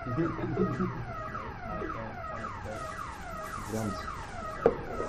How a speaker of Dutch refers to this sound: En dat is het alarm.